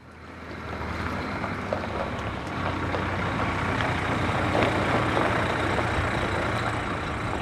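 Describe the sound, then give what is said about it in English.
Buses carrying students rumble in as they pull up in a farmyard in Offaly, a steady heavy engine drone with broad hiss that swells slightly partway through. No one speaks. “He got there just as the buses with the students pulled up, sixth years about to submit their projects and fifth years looking for ideas for theirs.”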